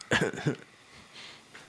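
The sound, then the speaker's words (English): A single loud cough from a TV game show audience member, a harsh two-part burst lasting about half a second, followed by faint background hiss and a couple of soft rustling sounds. “Let's just play the cough.”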